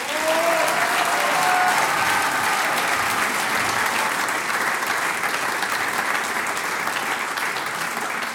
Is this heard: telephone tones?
no